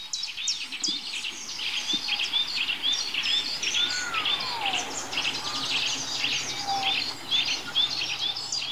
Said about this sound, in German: Wer pfeift denn da? Was pfeift denn da für ein komischer Vogel?